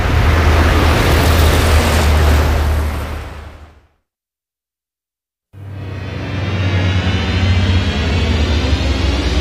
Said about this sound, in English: Ah, here comes the bus.